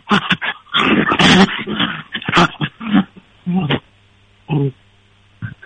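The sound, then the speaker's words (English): A dog whimpers and whines with a bully stick in its mouth, in a string of muffled, uneven bursts, close up and fairly loud, with tinny phone-line quality as the phone is held right up to its mouth, and short pauses between cries. “That's with a bully stick in his mouth.”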